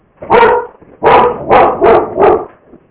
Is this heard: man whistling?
no